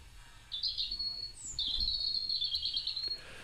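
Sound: european robin song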